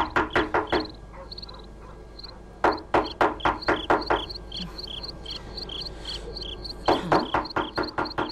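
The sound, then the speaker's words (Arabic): Three bursts of rapid, sharp knocks on the door of the muezzin's house, each a quick run of loud raps with pauses between, while high, steady insect-like chirping continues faintly in the background. “سأطرق الباب.”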